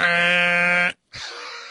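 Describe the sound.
A voice imitates a fire truck horn with a loud, steady, buzzy blast lasting almost a second, followed by a short gap and a second breathier, noisier honk.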